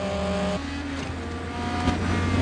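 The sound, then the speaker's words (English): A loud black car's engine roars, its droning hum shifting pitch partway through as it pulls around to the side of a lorry with a heavy engine on a road under a clear blue sky, with steady road noise throughout and no talking. “Dom pulls around to the side of the truck, and Vince puts on a helmet.”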